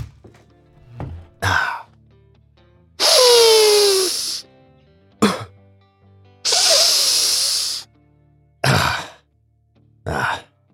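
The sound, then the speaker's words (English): Afrin nasal spray squirts with short hissy bursts, followed by two long, forceful snorting sniffs and a few more quick sniffs, all heard alone without talking. “Just a little Afrin, folks.”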